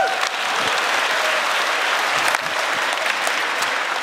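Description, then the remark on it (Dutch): Steady audience applause for a speaker after a speech, a dense crackle of many hands clapping at an even loudness for about four seconds, with no voices standing out above it. “Ik krijg er applaus voor en dan gaan we naar de borrel.”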